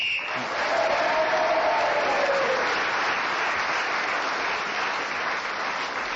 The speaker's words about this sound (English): The audience usually cheer for Kenneth Williams when he gets extra points. This week they are cheering for Clement Freud because he has brought a group with him.